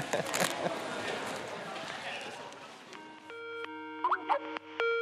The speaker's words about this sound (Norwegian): Det ringer fra Pakistan.